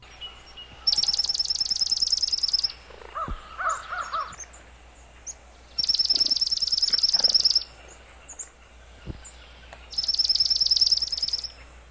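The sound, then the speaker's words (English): A swamp sparrow loudly delivers its slow, musical trill on a single pitch, repeated three times with pauses between, with faint other bird calls in the background. “the swamp sparrow loudly delivers its slow musical trill on one pitch.”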